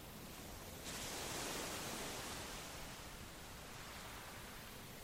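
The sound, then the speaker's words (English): A wave surges in with a broad, hissing rush over the shingle of a small beach, then slowly drains back, followed by a softer second swell; a steady wash of sea with no voices, under a light mist of rain and a mild wind. “Shingle of the small beach as the waves break and withdraw.”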